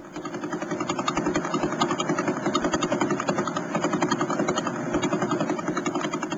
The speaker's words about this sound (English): We've had recordings of pulsars, which are the spinning corpses of dead stars, since the 1960s. Pretty cool. I always get a kick out of hearing pulsars. But what we're hearing there are radio waves converted into sound.